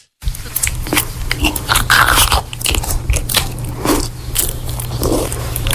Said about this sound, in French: Alors, c'est pas loin, mais effectivement, c'est quelqu'un qui mange.